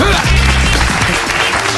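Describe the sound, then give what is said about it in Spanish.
A loud burst of applause fills the whole stretch, dense clapping from a crowd with no pauses, and a faint low hum of other sound beneath it. “¡Muy bien! ¡Un aplauso!”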